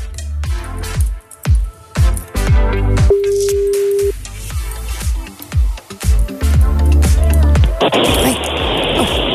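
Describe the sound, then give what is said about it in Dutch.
A single steady telephone ringing tone, about one second long, as an outgoing call is placed to call back a contest winner, over a busy musical backing with punchy drum hits, followed by a sudden burst of hissing noise. “We gaan de winnaar even terugbellen.”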